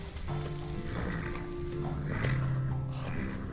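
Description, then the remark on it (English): Horses with low, drawn-out nickering and breathy snorts over a steady backdrop of outdoor noise, lasting a few seconds without clear speech. “Oh, wow, you got horses too?”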